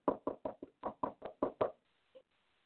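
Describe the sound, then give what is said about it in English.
Someone raps on a door in a quick, steady run of about nine solid knocks, then after a short silence one last faint knock. No voices. “He's knocking at the door because he wants to come in.”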